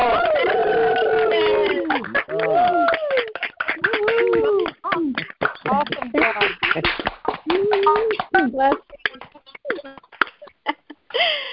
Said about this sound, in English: You are now Pathways of Light ordained ministerial counselors. I'd like to ask everyone to please take your phones off of mute, and we're going to give them a big hand. So everybody, please take yourself off of mute, and let's all clap. Yay! Yay!